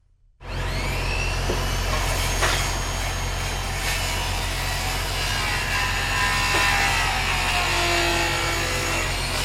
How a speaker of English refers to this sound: Well, you see them now off of I-95 looking toward the ocean. You can hear the noise filling some of our neighborhoods. Construction cranes dotting our skylines and hammers fixing and building homes.